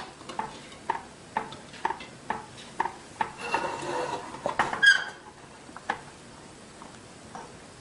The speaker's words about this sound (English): Okay, and pour it right in there. And then I'm gonna keep stirring.